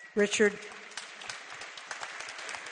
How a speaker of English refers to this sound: I don't think he even knows that we're applauding him.